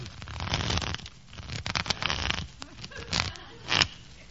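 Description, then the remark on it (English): A deck of playing cards being shuffled for a card game, with several rapid papery riffles and crisp flutters arriving in uneven bursts, the loudest near the end, and no one speaking. “Go ahead and shuffle.”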